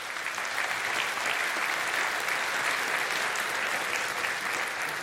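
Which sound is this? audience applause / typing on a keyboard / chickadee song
audience applause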